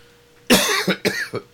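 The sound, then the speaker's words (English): A short fit of harsh coughing, three or four raspy bursts in quick succession, the first the loudest, with no talking around them. “I'm sorry for coughing.”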